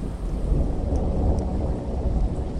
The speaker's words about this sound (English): And when I was there, there happened to be a thunderstorm that morning, like a routine thunderstorm.